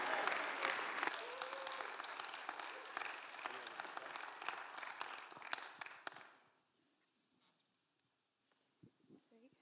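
An audience applauds with dense, steady clapping for about six seconds, then the applause quickly dies away into near silence with a few faint sounds at the end.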